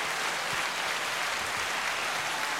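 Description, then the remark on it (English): Steady, dense applause from a crowd, a continuous crackle of many hands clapping at an even level throughout, with no voices over it. “Thank you for the enormous applause”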